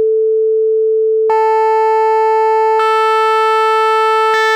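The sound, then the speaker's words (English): A steady synthetic tone around A440 starts as a pure sine, then gains layered overtones in three abrupt steps, each click-like change making it brighter and buzzier, almost reedy. “All of a sudden, it starts sounding less like the computer-generated tones that it is, and a little more like maybe a reedy musical instrument.”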